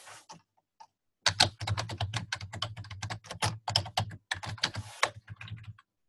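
Rapid typing on a computer keyboard while writing text into an email, a steady flurry of crisp key clicks running for several seconds after a few scattered taps, with no talking.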